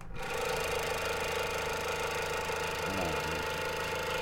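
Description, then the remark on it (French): A steady, loud mechanical buzz from vibrating crucifixes drones on without pause, a dense rattling vibration with a constant pitch and a brief wavering dip near the end. “J'ai fait vibrer les crucifix, écoutez bien.”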